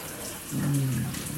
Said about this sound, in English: Okay, let me just get up and turn the water off.